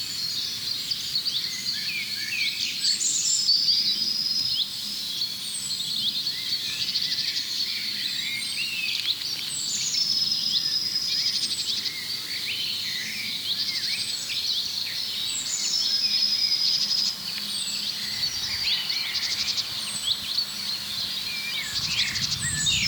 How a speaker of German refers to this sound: Dieses Huit, Huit, Huit, Huit, das fast wie Kontaktruf vom Zilzalt klingt, ist aber gepaart mit dem Pink am Ende. Es kann kein Zilzalt sein. Das ist der Buchfink, der Ruf, der bei uns eher wie Rüb, Rüb, viel rauer und rollender klingt.